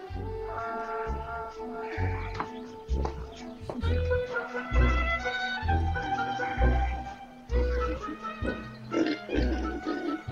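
pigs oinking and grunting

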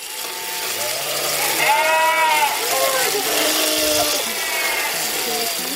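sheep bleating

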